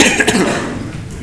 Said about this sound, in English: So if you have the need to cough, clear your throat, whatever, please do so right now, because that's what I'm going to do.